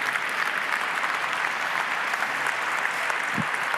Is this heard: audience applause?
yes